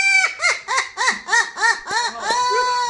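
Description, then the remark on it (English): A parrot mimics human laughter in a quick, rhythmic string of about eight shrill 'ha' bursts that ends on a drawn-out, wavering note. It is loud and alone with no talking. “But I really hate a parrot that laughs like this.”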